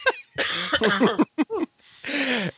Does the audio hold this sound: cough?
yes